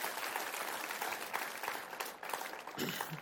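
An audience at a church service claps for a man as he goes down after the prayer, steadily for about three seconds, a dense, even wash of many hands at moderate loudness, briefly joined by a low voice near the end.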